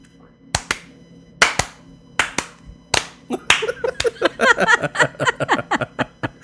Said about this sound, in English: And they would all clap for you. Yes.